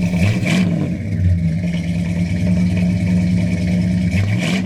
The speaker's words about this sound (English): When he listened to the engine sounds with his trusty stethoscope against the valve covers of the great 50s Caddy V8 or on the engine block itself, my father's eyes would light up with a knowing satisfaction rarely seen these days.